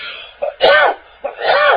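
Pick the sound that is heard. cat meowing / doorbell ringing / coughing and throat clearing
coughing and throat clearing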